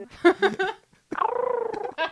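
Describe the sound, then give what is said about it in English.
A woman imitates an owl: three short, breathy hoots, a brief pause, then one long wavering hoot with a fluttering pulse, moderately loud and alone, followed by the start of another call. “And she also does an amazing owl impersonation.”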